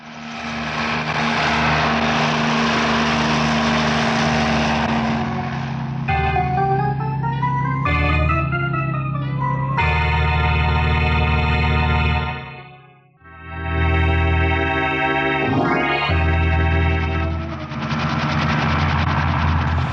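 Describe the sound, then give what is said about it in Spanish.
A loud, steady helicopter engine roar with a deep rumble and whining tones that waver and shift in pitch, briefly dropping out before resuming, as the helicopter slowly descends toward a torch-lit clearing among great boulders on the summits of Kilimanjaro, with an icy wind blowing. No voices. “El helicóptero desciende lentamente hacia un sitio.”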